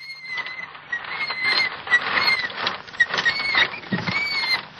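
A child's unoiled tricycle squeaks over and over in a steady, uneven rhythm, with thin high-pitched creaks rising and falling above a soft rattling, scuffing background. No one speaks.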